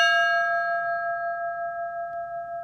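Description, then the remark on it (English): A single clear chime strikes once, marking the start of a reflection, and rings on with a steady, shimmering tone, slowly fading with a gentle wavering pulse. No voices, just the resonant bell-like sustain. “During your experience, you will hear the sound of this chime.”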